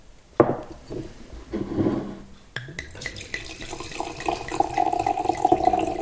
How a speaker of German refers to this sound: Der Sound ist schon mal gut. Schon allein deshalb muss man immer auch nochmal live einschenken.